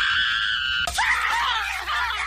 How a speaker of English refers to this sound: Right! For the rest of the day, whenever anyone says a secret word, scream real loud!